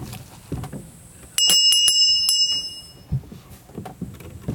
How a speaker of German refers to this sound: Die Glocke ertönt.